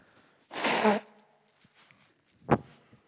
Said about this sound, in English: Excuse me. Let me just blow my nose.